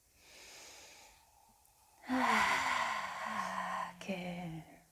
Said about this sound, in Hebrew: אז בואו ניקח ביחד נשימה עמוקה.